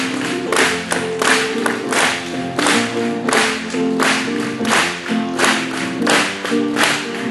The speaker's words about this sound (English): Let's just clap to Him.